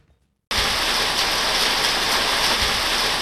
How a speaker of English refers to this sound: The sound of rain on the tin roof is music to Tom Eastlake's ears. Out here on his cherry farm in the town of Young in southwest New South Wales, the cold, wet weather is a sign of a promising harvest.